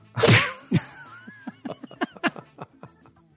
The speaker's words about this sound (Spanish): A ver, otra cachetada de esas.